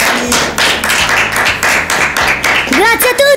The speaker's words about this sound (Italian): E vi ringrazio, fatevi un applauso perché siete stati molto bravi.